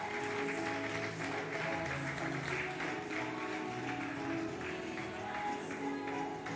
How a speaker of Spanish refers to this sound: Queremos dar un fuerte aplauso a nuestros kids que se van a ir a sus clases. Que tengan un buen tiempo, chicos. Un fuerte aplauso para ellos de nuevo. Ahí van.